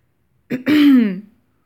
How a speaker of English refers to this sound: When I clear my throat and my muscles contract around your cock.